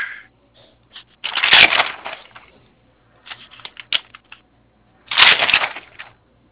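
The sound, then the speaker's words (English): Crisp, crackling rustles of old papers being handled and shuffled while searching for a name, coming in two loud bursts with quieter scattered rustling and small taps between them. “I got him on old paper here. Let me see.”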